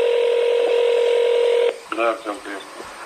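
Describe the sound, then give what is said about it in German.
A steady telephone ringback tone hums for under two seconds on a call placed by Navalny to an FSB agent, then cuts off as a man's voice answers briefly over the line. “Auch Nawalny rief an.”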